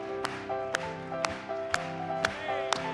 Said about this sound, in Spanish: Vamos a aplaudirle.